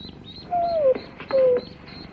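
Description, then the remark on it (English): Newly hatched ducklings, hatched out by the dog Lassie, peep in a steady run of thin, high chirps, with two louder, longer tones sliding downward in pitch through the middle. No one speaks. “The duck's hatched out!”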